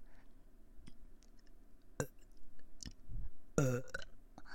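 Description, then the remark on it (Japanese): A burp into the listener's other ear rumbles out with a strong tonal croak near the end, preceded by soft mouth clicks and wet smacking sounds; quiet, no one speaks. “こっちの耳もゲップを聞いて気持ちよくなってくださいね。”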